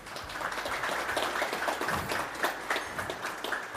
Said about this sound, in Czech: Vítejte i vy, kteří jste se tak krásně představili tím potleskem, a vítejte i vy u přijímačů.